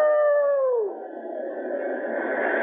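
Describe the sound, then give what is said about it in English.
A dog lets out a single drawn-out howl, its pitch sliding downward before dissolving into a steady, rushing background hiss. No one speaks. “Now, where that dog is, there must be shelter.”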